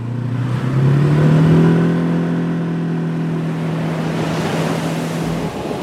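Steady rushing surf at Batu Bolong Beach in Bali fills the scene while a motor's droning hum rises in pitch early on and then holds beneath the wash of the waves.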